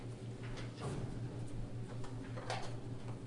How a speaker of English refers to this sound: A clock.